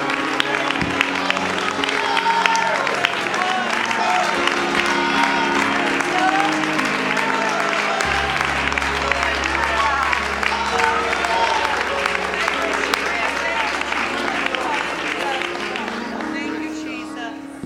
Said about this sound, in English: Let's give Him an ovation of praise right now.